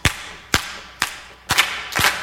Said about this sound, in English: Clap